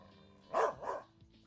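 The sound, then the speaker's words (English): Two dogs, Maddie, a border collie, and Molly, bark excitedly as they scamper off after hearing a branch crackle: two sharp, loud barks in quick succession, with no talking and only a faint low hum behind them. “Well, now that Maddie and Molly have gotten better acquainted, it only took the first sounds of a crackling branch, maybe stepped on by a deer, to get them scampering off, as both bark with excitement.”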